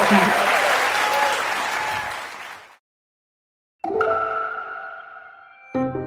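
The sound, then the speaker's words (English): A TED Next 2024 audience gives Pinky Cole dense, steady applause after her conversation; it fills the first few seconds and fades out, followed by a second of silence and then bright, sustained tonal music notes. “Big applause for Pinky.”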